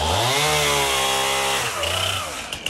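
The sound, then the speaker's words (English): A chainsaw roars, its engine note dipping and climbing as it bites into wood, loud and continuous with no voices. “Within a few hours, bearded, burly men armed with chainsaws came to the aid of widows and the elderly in their distress.”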